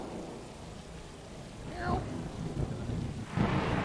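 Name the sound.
thunderstorm with rain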